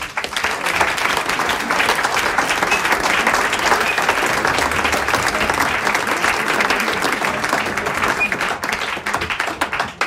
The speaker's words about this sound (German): Und darum möchte ich jetzt mit einem ganz großen Applaus auf die Bühne bitten, den Gründer dieses alpenländischen Harmonikawettbewerbs,